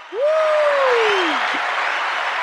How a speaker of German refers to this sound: Hast du den Applaus gehört, oder? Ich wollte gerade sagen, ist da was los bei euch? Ah ja. Geil. Also du hörst, wenn wir so Einspieler machen bei dir? Ich habe jetzt gerade irgendwie 50.000 Menschen beim Klatschen zugehört, ja.